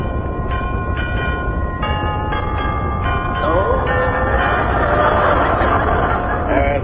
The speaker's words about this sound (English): Let's ring the doorbell.